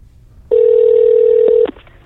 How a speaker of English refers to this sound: Hold on. I got to make a phone call. Should we start? Okay. Ringing. Ringing.